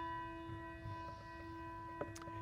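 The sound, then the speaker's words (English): A single memorial bell's toll hangs in the air, its steady metallic ring sustaining quietly without fading much, while a faint knock sounds near the end. No one speaks. “And then for the names that I mentioned or other friends who have passed, we'll have one final toll of the bell.”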